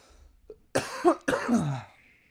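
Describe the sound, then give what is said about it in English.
Two harsh coughs in quick succession, the second trailing off into a rough, throaty rasp, with no talking around them. “I'm already coughing, dude.”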